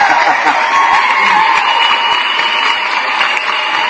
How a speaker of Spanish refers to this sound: Mira, qué felicidad. Hombre, aplausos.